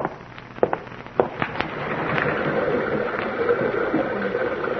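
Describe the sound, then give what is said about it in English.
A big rocky river rushes through a gorge, its steady roaring wash swelling louder after a few sharp knocks and clicks at the start, then holding a dense, continuous churn. “I've a hankering to hear the big rocky river rushing by down there in the gorge.”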